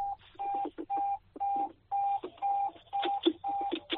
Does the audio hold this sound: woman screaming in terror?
no